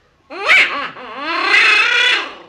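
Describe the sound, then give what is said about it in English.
A duck call imitating a pintail widgeon's hailing call: a short wavering squeal, then a longer, sustained reedy note that rises and fades, loud, with no talking. “That's the hailing call of the pintail widgeon.”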